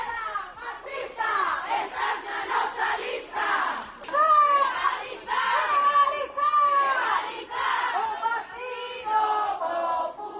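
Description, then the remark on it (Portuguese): A protest crowd at a CIGA protest at midday in front of the Partido Popular headquarters in Santiago shouts in loud, rhythmic unison, many voices rising and falling together in chant-like bursts that continue steadily throughout. “Estes son os berros do escrache montado pola CIGA este mediodía diante da sede do Partido Popular en Santiago, onde se pecharon 5 mulleres traballadoras desa sede e protexidas por un forte dispositivo policial”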